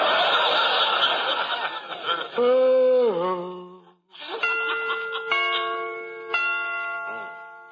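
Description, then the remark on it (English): Clock chimes strike the hour in slow, evenly spaced tones, each ringing out and lingering, after a noisy, chattering burst and a brief wavering tone at the start. “Got to remember to get them chimes made softer. No sense in letting the neighbors hear the time for nothing.”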